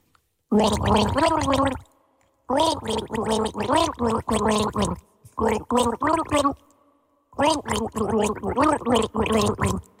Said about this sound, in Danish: hvilken sang synger de med vand i munden-quizzen?